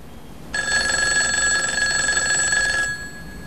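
signal or alarm, telephone ringing

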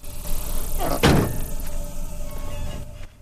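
vehicle, car door being shut

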